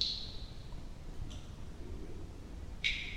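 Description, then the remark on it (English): Water drips somewhere deep in a cave: three sparse, high-pitched plinks spaced about a second or more apart, ringing briefly over a low, steady rumble of ambient noise. “From somewhere deep in the cave, a distant dripping.”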